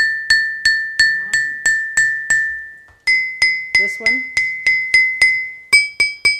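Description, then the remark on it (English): Rocks of different types and shapes are struck in a steady series of sharp taps, each ringing with a clear bell-like tone. The pitch steps up twice between groups of strikes, and a voice briefly speaks midway. “So it really varies, the sound that's produced really varies depending on the rock type and the shape of these.”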